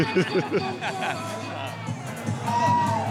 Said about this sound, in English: Okay, I'm making my way through the crowd here. It's starting to get a little more packed. It's starting to fill up. World's largest karaoke.